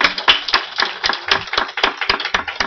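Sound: audience applauding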